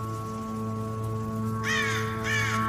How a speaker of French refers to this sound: Le corbeau passe au-dessus de moi, comme tous les matins. 8h31. Il a 15 minutes de retard par rapport à hier.